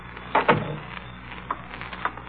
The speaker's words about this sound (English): Somebody's coming in the door.